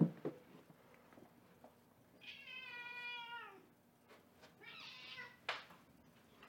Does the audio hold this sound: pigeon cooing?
no